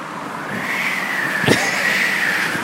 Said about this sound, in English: Listen to the traffic for a few seconds.